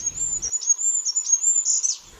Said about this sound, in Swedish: Man ser sällan den, men den hörs överallt och nästan året runt. Små, små nolltunna pip uppifrån grantopparna hör man. Och då är det kungsfågeln, Sveriges minsta fågel. Men finns i flera miljoner exemplar.